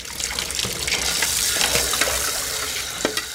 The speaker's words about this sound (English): At the Casa Migrante shelter in downtown Guatemala City, lunch is over and everyone is washing their dishes.